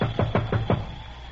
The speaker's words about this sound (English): Well, can't you knock on the door and let's get inside?